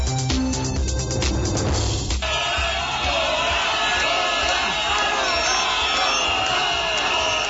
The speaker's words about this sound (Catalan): Ja ho senten, amb crits de fora i xiulets, més d'un miler de manifestants protesten encara a aquesta hora contra la presència de la família reial espanyola al Palau de Congressos de Barcelona, que ara mateix presideix la cerimònia dels desens premis